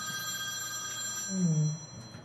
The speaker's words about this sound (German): Telefon.